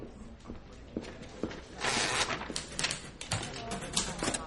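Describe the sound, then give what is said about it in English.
Typewriter keys clack in quick, irregular bursts at moderate volume, with a brief rush of mechanical rattling partway through as the machine is handled. No voices. “Loretta stares at Jean, who begins to type at a typewriter, then examines the machine.”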